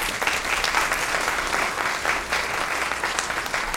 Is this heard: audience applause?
yes